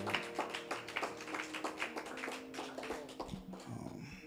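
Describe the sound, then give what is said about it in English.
A group of people at a church worship service claps steadily for several seconds, the sharp overlapping claps forming a loose rhythm over a low, sustained musical tone. “Amen. And clap.”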